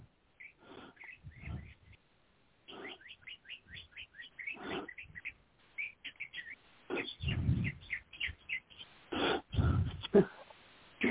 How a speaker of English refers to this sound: Those birds. Yeah, they're at it. They are on go.